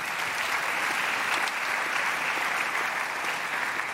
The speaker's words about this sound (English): Let's give those brothers a round of applause for the great work that they did.